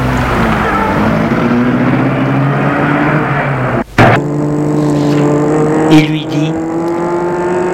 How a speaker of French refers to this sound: Elle le mène à sa voiture, le fait entrer et met la voiture en route.